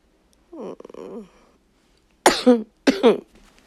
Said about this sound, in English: You think my coughing is sexy?